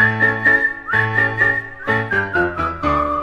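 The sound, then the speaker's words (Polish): A person whistles a bright, lively melody of short and held notes, with no one talking, moving steadily through the phrase over a low steady tone underneath. “A chociaż go trafi, kulek nawet 300, maszeruje dalej i tak sobie śwista.”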